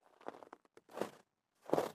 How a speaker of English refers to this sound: A very light crunching in the snow, but in the recognizable pattern of someone walking. I moved over to the window and looked, instantly seeing a figure out by the trees, walking toward the path.